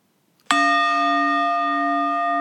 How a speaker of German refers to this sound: Du denkst jetzt ernsthaft bei dieser Glocke an einen Boxkampf? Ja, klar. Das ist eine Klangschale gewesen. Das ist nicht ein Boxkampf. Das ist eine Klangschale.